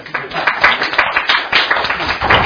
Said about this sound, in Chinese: 你给他一个掌声啊。